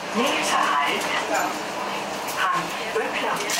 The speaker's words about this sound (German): Es ist früher Abend, eine Straßenbahnlinie in der Kölner Innenstadt.